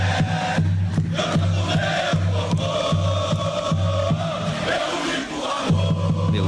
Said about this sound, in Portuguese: Cantando a torcida palmeirense no aeroporto, né?